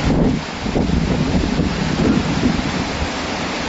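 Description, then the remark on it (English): Strong wind on a windy day, not a storm, buffets the microphone with a steady low roar while waves churn and slap on the Sea of Galilee (Lake of Tiberias), a continuous loud rumble with no voices. “this is not even a storm. This is just wind. This is the Sea of Galilee being on a windy day.”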